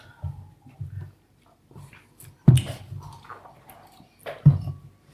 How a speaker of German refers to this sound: Ich nehme nochmal einen Schluck.